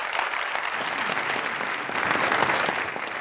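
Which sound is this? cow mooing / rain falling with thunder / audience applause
audience applause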